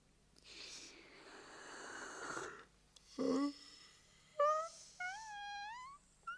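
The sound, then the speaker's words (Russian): A loud, drawn-out yawn at a table: a long breathy inhale followed by a wavering, moaning voiced stretch that rises and falls before trailing off. No talking. “Не зевай и не подтягивайся за столом,”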